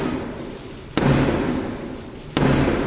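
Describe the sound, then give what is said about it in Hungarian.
Three heavy knocks on a wooden door, slow and evenly spaced, each loud strike echoing over a low background murmur, requesting entry to the Westminster Parliament at the state opening ceremony of the monarch's speech. “A királynő vagy király, miután szolgálja háromszori kopogtatással kér bebocsáttatást a Westminsteri törvényhozásba, a hatalmon lévő kormány programját ismerteti.”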